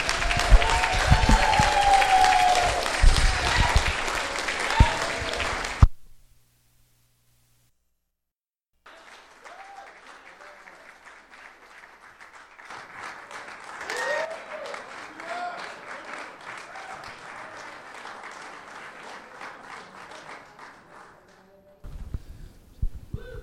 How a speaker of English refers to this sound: Let's clap our hands and give God glory in this place.